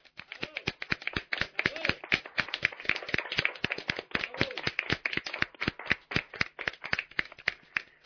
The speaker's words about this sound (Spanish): ¿Por qué no intentamos en vuestro aniversario aplaudirnos todos? ¿El qué? ¿Aplaudirnos todos? ¿Aplaudirnos? Sí. Sí. A la de tres, ¿no? Sí, venga. Una, dos y tres.